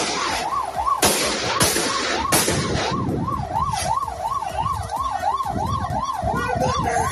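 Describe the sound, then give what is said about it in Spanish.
Three sharp gunshots, fired by municipal police at the tyres of a fleeing car, ring out in quick succession, loud, over a steadily wailing siren and rumbling street traffic that continue after the shots stop. “Varios disparos a las ruedas del coche que en su huida chocaba de frente contra otro vehículo.”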